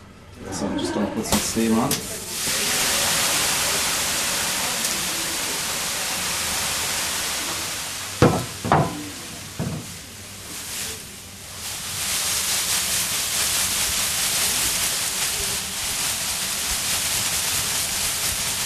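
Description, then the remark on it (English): A loud, sustained hiss of steam fills a sauna in Ireland as steam is put on, broken briefly by a few sharp knocks and splashes in the middle, then the steady rushing hiss resumes. “So I'm just going to put some steam on.”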